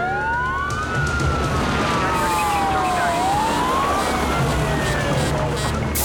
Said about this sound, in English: Fire trucks pull to a halt near the pit.